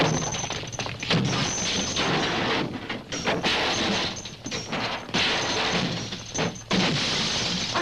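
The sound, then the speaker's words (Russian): Loud, near-continuous smashing and crashing as fascists batter and break apart scooters, with clattering impacts and brief lulls over about eight seconds. No one speaks. “Фашисты приехали! Они ломают мотороллеры!”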